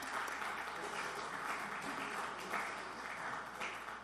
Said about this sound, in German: Man sieht hier vorne die Schülerinnen, fast alle Schülerinnen, die am Montag dabei waren, sitzen hier. Also erstmal herzlich willkommen auch euch, dass ihr da seid. Vielleicht auch mal einen Applaus für die.